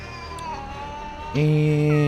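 A cat named Mr. Bubbins, being taken out of its bag at an airport TSA security checkpoint, lets out a loud, drawn-out meow, its strained wail rising suddenly out of quieter meowing and holding steady to the end. No one speaks.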